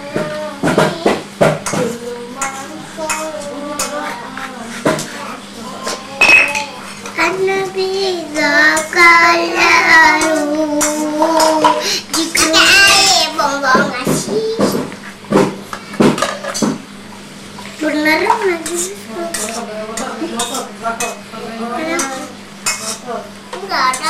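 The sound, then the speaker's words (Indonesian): Plates and cutlery clink and scrape repeatedly, with sharp metallic clatters and a brief loud burst of scraping midway, while children's voices chatter and babble underneath. “Saya kena dentingan itu perih.”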